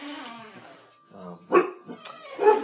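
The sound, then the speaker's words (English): A dog barks several times in short, sharp bursts, fairly loud, with a brief lower whine or growl before the barks. “Chloe has got the art of barking down.”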